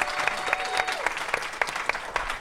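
An audience at a comedy show claps steadily for a volunteer on stage, a dense patter of many hands with sharper individual claps popping out at an irregular rhythm, sustained at moderate loudness with no talking.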